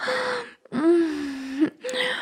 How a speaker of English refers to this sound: Gasping for air.